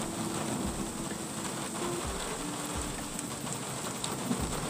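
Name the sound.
distant thunder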